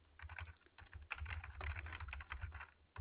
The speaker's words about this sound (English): Sorry for my typing.